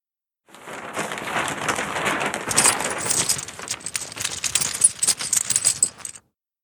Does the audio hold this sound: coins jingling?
yes